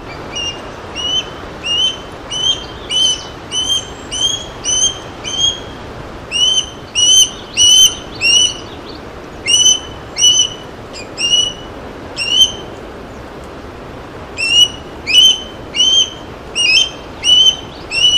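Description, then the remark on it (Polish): An osprey calls in a long series of sharp, whistling high-pitched squeals, repeated in quick rhythmic bursts with brief pauses, clear over a soft background hiss. “Rybołów ma specyficzny głos, taki jakby gwizd, pisk.”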